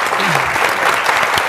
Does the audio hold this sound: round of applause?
yes